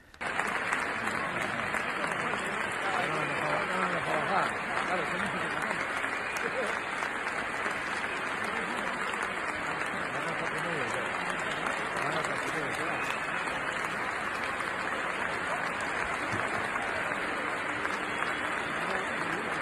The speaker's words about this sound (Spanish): Una ovación.